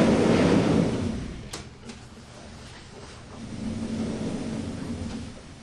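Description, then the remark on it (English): A train rolls in with a deep, rumbling roar that starts loud, eases into a steady low drone, and carries a few brief metallic clicks and squeaks over it. “I think the train just arrived.”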